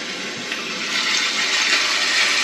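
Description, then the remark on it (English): A steady rushing wash of ocean waves, broad and hissy, swelling slightly louder toward the end with no break. Loud, with no voices. “That is ocean. That's ocean stuff.”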